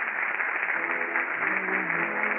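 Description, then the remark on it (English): A theater audience at the Little Theater off Times Square gives sustained applause at the curtain of the last act of a new play, a dense, steady roar of clapping that holds at an even loudness throughout, with faint voices mixed into the crowd noise. “This is the way in this lobby are getting round after round of applause.”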